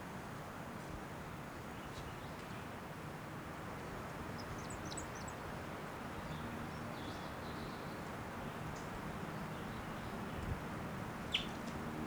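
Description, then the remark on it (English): A wild bird gives a few thin, high chirps, scattered and faint, over a steady rushing background noise like wind. No one speaks. “And the wild one. Still not sure what sex that is.”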